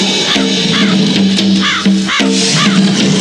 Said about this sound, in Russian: Вороны. Это... Меня преследуют.